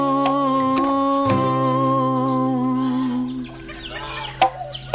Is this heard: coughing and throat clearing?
no